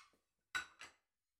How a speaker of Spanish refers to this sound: Pongo la mesa.